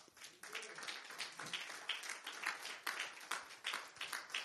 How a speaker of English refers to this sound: Give God another clap.